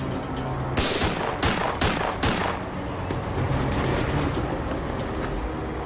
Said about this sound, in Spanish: El hombre continuó disparando al oficial Rogers.